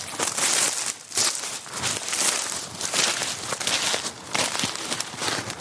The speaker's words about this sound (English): Do you want to go through the wood, Rose? Come on, let's do it. Ooh, crunchy bracken.